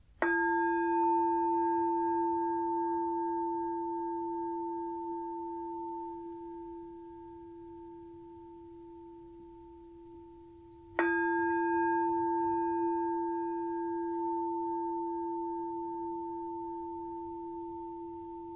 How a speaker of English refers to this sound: For now, let's sit together for a few minutes with a visualization guided meditation. I'm going to start with three sounds of the bell and the usual settling in introduction.